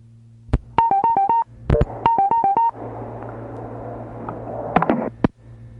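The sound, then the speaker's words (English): Two quick runs of bright telephone keypad beeps, each a rapid string of short tones, followed by a stretch of hissing line static broken by a few sharp clicks. “We're dialing into one of the strangest and most chilling corners of the paranormal.”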